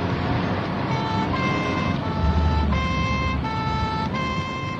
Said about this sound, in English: Right, put the siren on.